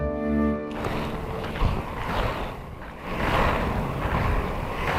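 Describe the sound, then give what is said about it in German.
A brief musical tone gives way to a steady, rushing scooter engine noise that rumbles on continuously and fairly loudly, with no one talking. “Mit dem Roller.”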